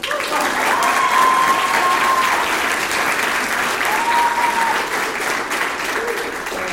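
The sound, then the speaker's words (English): A crowd claps loudly and steadily after being asked to clap a little louder, a dense, sustained wash of applause filling the whole clip, with a few brief whistle-like tones rising above it. “Could you clap a little louder?”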